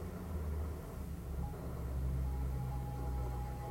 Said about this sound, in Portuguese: Ouça o som também que é suave e que se propaga desse gongo, trazendo você de volta para o espaço onde cada uma de nós está.